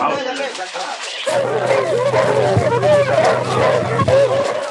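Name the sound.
dogs barking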